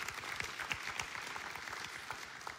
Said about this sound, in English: If you'd give him a huge round of applause as he comes.